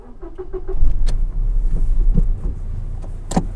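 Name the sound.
car driving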